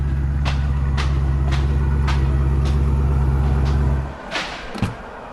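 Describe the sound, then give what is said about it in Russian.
A car engine, brought in for inspection over engine problems, idles loudly with a steady low rumble and regular ticking clicks, then cuts off abruptly, leaving a couple of soft knocks and near quiet. “Ничего себе машина.”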